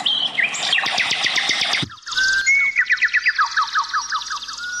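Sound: birds singing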